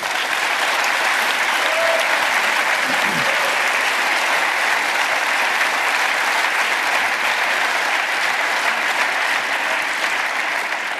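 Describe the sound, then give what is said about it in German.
A crowd applauds steadily for about eleven seconds, a dense, even wash of clapping that holds its loudness throughout with no voices on top. “Genau, DX verdient einen Applaus für die Selbstanzeige im Hackerparagrafen.”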